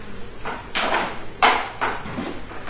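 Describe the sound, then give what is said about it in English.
A hammer banging nails: several dull, irregular blows over a steady background hiss, with one blow standing out louder than the rest. No one speaks. “Banging nails.”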